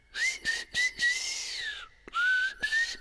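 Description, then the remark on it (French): Someone whistles a tune, clear sustained notes gliding between pitches with a few short breaths in between, with no talking. “Là, c'est du fredonnage qu'on vient d'entendre et on revient au sifflage.”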